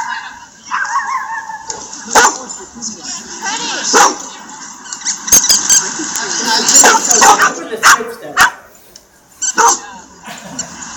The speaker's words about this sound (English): It's a dog.